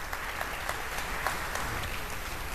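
An audience applauds a speaker, an informatics master's student at the KIT in Karlsruhe, before his talk on good patterns in deep learning with TensorFlow: a dense wash of many hands clapping at an even level with scattered sharper claps poking out, and no voices over it.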